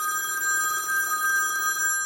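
A telephone rings steadily in a role-play phone call, its bright electronic tone holding a constant pitch for about two seconds with a faint warble, no voices present.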